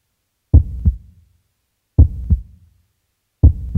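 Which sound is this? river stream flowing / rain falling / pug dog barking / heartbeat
heartbeat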